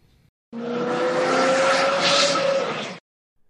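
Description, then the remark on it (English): A fast car roars past at high speed, its loud engine whine rising and fading over about two and a half seconds, with no one talking. “But you can also say the car zoomed by me. This means the car drove by you at a very high speed.”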